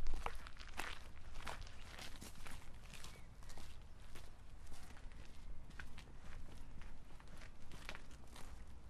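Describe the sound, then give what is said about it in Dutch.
Steady footsteps crunching along an outdoor cemetery path at a relaxed walking pace, heading to Pierre Cuypers' grave behind the bishops' burial chapel, on a drizzly day, with a low rumble of wind or background noise and no talking. “Ja, die ligt daar achter de bisschoppelijke grafkapel, dus kunnen we even naartoe lopen.”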